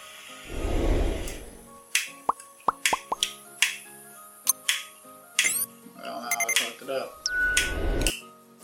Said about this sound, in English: So lighters have an issue when it's cold. So if it does that lighter in particular, there it goes.